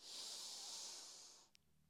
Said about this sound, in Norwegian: Skal vi gjøre det en gang til? Pust godt inn med nesa.